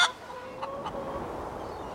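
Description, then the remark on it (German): Chickens cluck softly in a short burst, with a couple of brief calls over a steady low background murmur. “Es wurde ein lustiger Hühnerherbst mit einem kleinen Hühnerzirkus, der einen oder anderen Schnabelhackverletzung und vielen selbstgelegten Eiern.”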